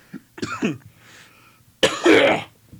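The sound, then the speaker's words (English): A few rough, raspy smoker's coughs: two quick hacking bursts, a brief wheezy pause, then one loud, harsh, phlegmy cough with a throaty rattle. “I had a smoker's cough.”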